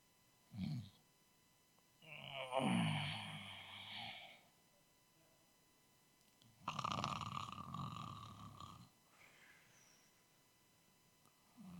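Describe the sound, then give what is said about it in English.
A voice imitates loud snoring: two long, rasping inhaled snores a few seconds apart, exaggerated, with a short breathy sound before the first. “That's a really good snore”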